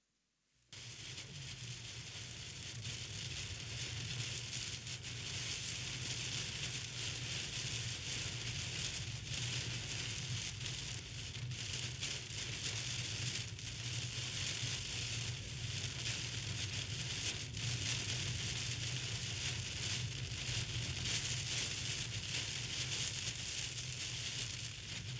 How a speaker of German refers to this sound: oder wer hat noch so Regen erlebt im Urlaub? Ach, doch, einige. Ach, so ein Regen ist eigentlich gar nicht schlimm